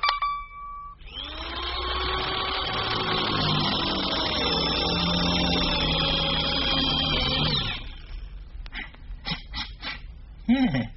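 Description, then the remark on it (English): A power drill whirs steadily for about seven seconds, its motor whine loud, then cuts off, followed by a few scattered clicks and knocks. “Quick, hand me my drill.”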